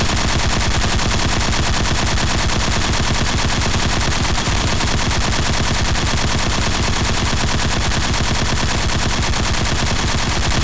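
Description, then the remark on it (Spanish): Sustained automatic gunfire hammers on without pause for the whole stretch, a loud, rapid, evenly spaced stream of sharp reports blending into a harsh, dense roar with no voices. “Y he venido a dispararles a todas las personas que están dentro de este salón.”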